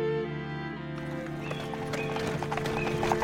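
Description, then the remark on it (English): Donkey hooves clip-clop in a steady, uneven rhythm as a donkey pulls a small cart laden with two sacks of soot, over a sustained musical drone that continues throughout. “the two sacks of soot with which the little cart was laden”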